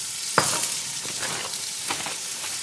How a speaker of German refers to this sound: Oh, ich liebe es, wenn es brutzelt.